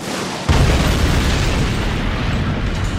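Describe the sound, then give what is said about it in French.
A sudden explosion bursts in after a half-second of quieter noise, then rolls on as a loud, heavy, low rumbling roar that barely fades. No one speaks. “Chaque fois qu'il veut en toute galanterie t'ouvrir une porte, il explose le mec.”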